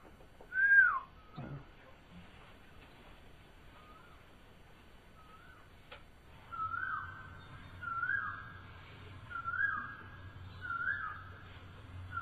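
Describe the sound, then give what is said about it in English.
Someone whistles an imitation of a cuckoo call: one sharp opening whistle, a few faint short notes, then four clear repeated two-tone phrases, alone, with no talking. “So if you're imitating the cuckoos, the blackest birds.”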